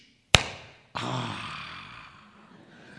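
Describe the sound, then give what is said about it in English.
A firecracker clap: a single sharp hand clap cracks out, and a moment later a long, breathy whooshing sound swells and slowly fades away over the next couple of seconds. “And a firecracker clap goes like this, swoosh!”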